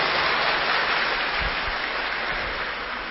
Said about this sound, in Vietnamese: Và hôm nay các bạn rất là ngoan, thì cho một tràng pháo tay tán thưởng các bạn.